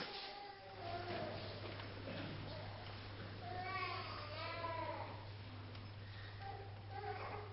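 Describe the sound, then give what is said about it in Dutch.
A baby cries in several wavering, high-pitched bursts during a baptism, fairly quiet, over a steady low electrical hum. “Heer, eeuwige God, terwijl we een baby horen huilen, bidden wij tot u.”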